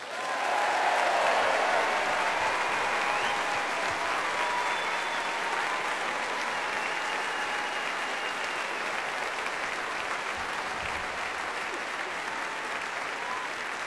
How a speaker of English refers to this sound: And a huge round of applause, please, to our very own Aurora Orchestra.